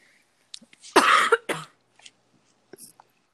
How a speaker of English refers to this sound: I have to cough, but I don't want to do cough it.